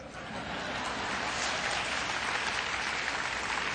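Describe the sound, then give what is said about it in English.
A crowd applauds steadily, a dense wash of many hands clapping at an even, fairly loud level for several seconds with no voices standing out. “You may applaud.”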